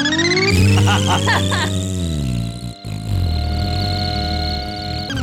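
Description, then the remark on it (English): A voice makes fart noises by mouth, performed live: a long, buzzy, blubbering raspberry that slides up in pitch and then holds steady, running loudly for about five seconds with one brief break. “I like the fart noises with that. I can't figure out if you're doing that live each time.”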